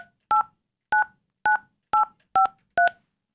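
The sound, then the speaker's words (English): A telephone number being dialed to call a roommate: six short, evenly spaced touch-tone beeps, each a steady dual-pitched tone, with brief silences between them and no talking. “we're going to just pick up and we're going to call”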